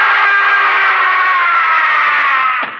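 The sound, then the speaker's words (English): A man lets out a single long, loud scream at night, held at a steady, strained pitch for nearly three seconds before breaking off abruptly. No other voices are heard. “I heard a scream.”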